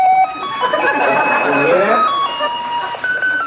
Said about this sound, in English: Shoes move on. Bell rings.